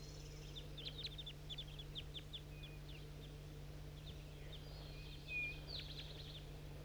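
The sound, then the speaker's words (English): Bird calls from a bird referred to as 4-3 and some wild birds near a bird-catching net: quick, high chirps come in loose bursts, some clustered and some spaced out, fairly faint over a steady low hum. Nobody speaks. “Calls a 4-3 and I think some wild birds too.”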